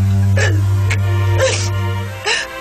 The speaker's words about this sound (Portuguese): Por que está chorando? Quem você está procurando?